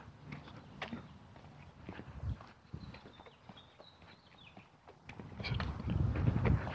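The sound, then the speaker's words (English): A robin sings faintly in the distance on a 62-degree morning with the sun low and some cloud cover, a thin high warbling phrase, while heavier rhythmic footsteps crunch and thud steadily in the foreground. “Is a robin off in the distance, making me out a liar.”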